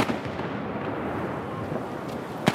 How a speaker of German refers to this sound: Die Ischler Prangerschützen feuern Salutschüsse ab auf einer Brücke über dem Fluss Traun.